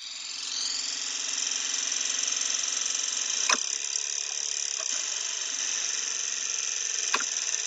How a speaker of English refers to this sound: This is how your car engine would sound without any of the noises from the moving parts or combustion